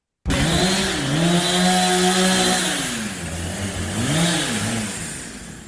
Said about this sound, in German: Wir stehen jetzt an der Baustelle vom Quartiersplatz und jetzt wird's wirklich laut.